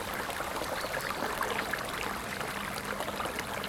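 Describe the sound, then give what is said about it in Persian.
Water flows and gurgles steadily in a small spring-fed pond beside rocky stone ledges, what remains of the Cheshmeh Ali spring in Rey, a continuous soft babbling with bright splashy detail, fairly quiet, with no voices. “از چشم علی که روزی اسم سورنا رو با خودش داشته، حالا یک برکه کوچیک مونده که تابستونا آدم ها میتونن روی صخره‌های سنگی کنارش بشینن و به صدای آب گوش بدن.”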